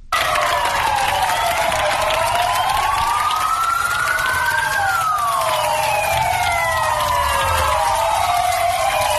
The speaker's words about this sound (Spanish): Y en Son Espaces, a las 8 de la tarde, este aplauso no es hacia los sanitarios tan solo. Ellos también aplauden a la Policía Nacional y a la Policía Local.